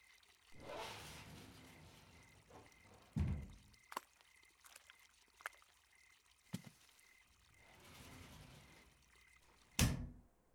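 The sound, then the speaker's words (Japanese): A door is handled and opened amid soft rustling and movement, with a few dull knocks and clicks and a sharper thud near the end. No one speaks. “あ、そこのドア開けてくれる？”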